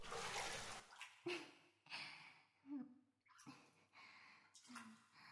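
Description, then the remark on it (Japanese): Bathwater sloshes and splashes in several uneven surges, like a body shifting and rising out of a filled tub, with brief quiet gaps between the wet swishes. “今度は一旦お風呂から上がって。”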